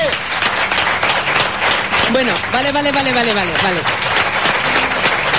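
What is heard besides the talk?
audience applause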